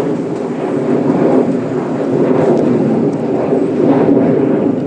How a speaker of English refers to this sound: As an Acme plane, possibly piloted by Captain Jeff, flies over the top, it's scary that I can recognise that type of plane now from down here as it flies over Yankee Stadium.